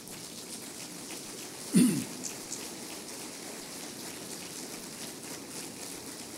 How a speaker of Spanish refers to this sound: Yo creo que esto merece un aplauso para el Señor.